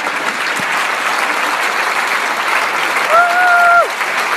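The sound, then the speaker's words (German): A concert audience applauds steadily at the close of a singer's Trio-Box concert series at Fischber Lappost. The dense clapping fills the room at an even, loud level, with a single sharp whistle rising above it near the end. “mit viel Applaus hat sie ihre aktuelle Konzertreihe, das Trio-Box-Programm im Fischber Lappost, abgeschlossen.”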